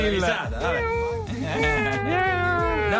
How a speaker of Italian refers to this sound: Miao. Miao. Basta.